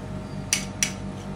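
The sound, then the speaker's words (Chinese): Two quick metallic clinks of utensils against a pan in pretend play of frying fish, spaced about a third of a second apart, over a low background hum. “哦，咁样就煎啊？”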